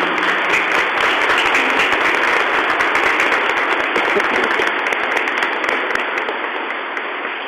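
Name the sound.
audience applause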